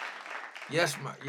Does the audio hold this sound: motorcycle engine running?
no